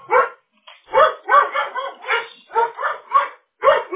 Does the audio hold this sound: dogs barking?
yes